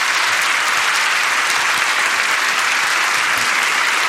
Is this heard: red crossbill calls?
no